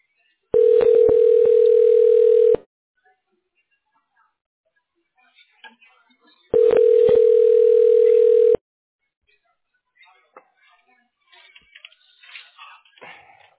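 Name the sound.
telephone line tone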